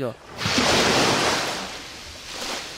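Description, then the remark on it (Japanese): A voice imitates a big ocean wave: a short vocal onset, then a loud, breathy whoosh that swells, crashes and slowly recedes, followed by a smaller second surge near the end. “お波のビッグウェーブ”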